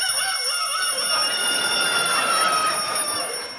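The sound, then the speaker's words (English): A voice imitates an alarm clock ringing, producing a steady, shrill, bell-like tone that holds continuously for a few seconds at fairly loud volume with no other sounds. “Yeah, I was the alarm.”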